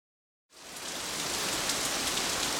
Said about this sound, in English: It rained the next day, and Mary didn't go to the secret garden.